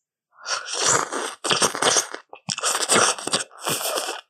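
Eating plain Doshirak instant noodles without seasoning: loud, crunchy, rustling bursts of chewing come in four dense runs separated by brief pauses, with no talking.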